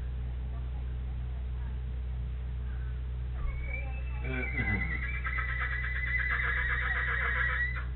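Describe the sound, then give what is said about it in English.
After a few seconds of low, steady background hum, a horse lets out a long, loud whinny that rises and then wavers for several seconds before ending. “I'm telling you, those horses talk, don't they?”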